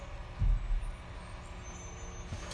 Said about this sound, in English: My gosh, what are they doing? They're like grinding up yard waste that we don't have and putting it in their truck, and our window is wide open.